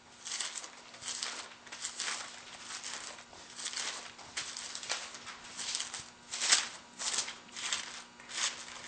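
Rapid papery rustling and flicking as thin Bible pages are turned one after another toward Galatians 3, a steady crisp riffle with no voices.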